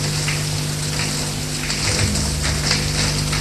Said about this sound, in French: Il se déshabille en vitesse. Prend sa douche. Ça lui fait du bien.